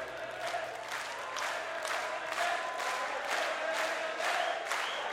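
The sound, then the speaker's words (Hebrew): A crowd claps in a steady rhythm for the Creator of the world, loud and sustained, with voices cheering and calling out over the beat throughout. “כפיים לבורא עולם.”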